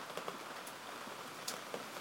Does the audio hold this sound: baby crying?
no